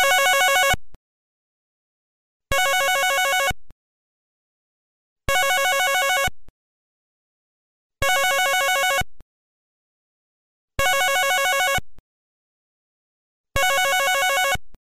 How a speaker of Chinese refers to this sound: 爸爸，冇人听电话啊！